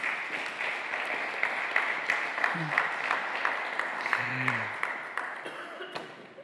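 Sustained audience applause for members of a church leadership team called to the front, with many hands clapping in a dense, steady wash, a few sharper claps standing out, while brief murmurs of voices surface underneath before it begins to taper off.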